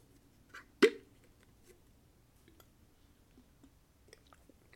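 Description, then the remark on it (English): A single short sip of coffee, a quick slurp-like gulp, stands out against a quiet background with a few faint small clicks and mouth sounds. No one speaks. “And let's take another sip of coffee.”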